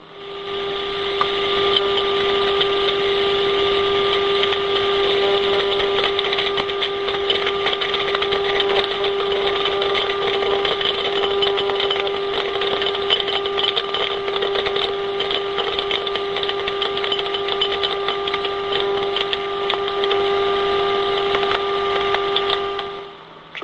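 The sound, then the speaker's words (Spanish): Popcorn kernels popping, a 1 minute 50 second recording condensed into 20 seconds so it sounds higher: a dense, rapid crackle of tiny high-pitched pops over a steady humming tone, few pops at first, then a central burst of many, then tapering off, with no voices. “te voy a poner el sonido de las palomitas”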